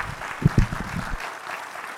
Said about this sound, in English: So why don't we give these folks a round of applause for their time this morning.